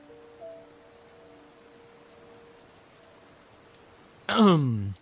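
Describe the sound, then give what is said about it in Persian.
A soft, steady hiss of rain falling, even and continuous in the background, until a loud voice suddenly cuts in over it near the end. “پاشو بریم، فکر کنم بارون دیگه بند اومده.”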